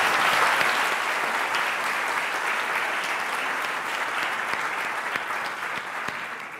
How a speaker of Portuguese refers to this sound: As crianças se encontrando aqui, se abraçando, fazendo festa, porque a igreja voltou a se reunir no templo. E com todas as atividades. Gostaria que a gente desse uma salva de palmas ao Senhor por isso.